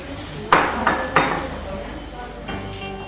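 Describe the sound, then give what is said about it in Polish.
Café ambience with a low murmur of voices and a few sharp clinks of dishes and cutlery, three quick clatters early on and a softer one near the end. “Nie pozostaje nic innego, jak zaprosić Państwa do dobrej kawiarni. Posłuchajmy.”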